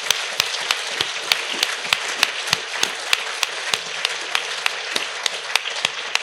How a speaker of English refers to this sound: The speakers have been absolutely magnificent, haven't they? I mean, just from start to finish. I mean, yeah, round of applause.